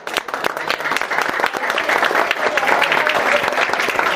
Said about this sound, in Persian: بریم یک دو سه. خودتون تشویق کنید لطفا.